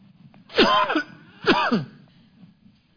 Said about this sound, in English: I have some allergy stuff. That's the reason I'm coughing. I'm not dangerous, I don't think.